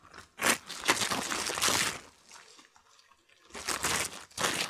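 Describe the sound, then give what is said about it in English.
Crinkling and rustling of wrapping being pulled open from a small oil lamp with a wick, coming in several bursts with a short quiet gap in the middle. No one speaks. “You unwrap one.”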